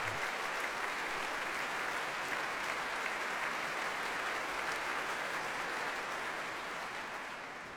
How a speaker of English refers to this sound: If the applause stops, that is.